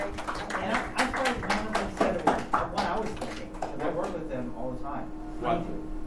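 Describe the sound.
A short round of applause from a small group: quick, sharp claps that are dense and lively for about three seconds, then thin out into scattered claps, with voices murmuring underneath.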